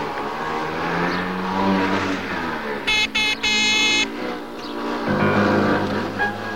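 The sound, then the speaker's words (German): A small motor scooter engine revs and buzzes up and down, with a brief high-pitched burst partway through and no voices; from the East German TV series Schwester Agnes, in which community nurse Agnes rides her scooter to her patients. “Im DDR-Fernsehen fuhr die Gemeindeschwester Agnes noch auf dem Roller und mit Rotkreuzhäubchen zu ihren Patienten.”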